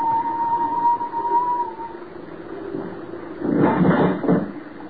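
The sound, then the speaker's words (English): During a storm, a thin, steady whistle drifts in from a distance for a couple of seconds, then fades, followed by a louder, broad metallic clang and clatter, as if a mass of metal had fallen somewhere. “whistle and a clanging sound as if a mass of metal had fallen somewhere.”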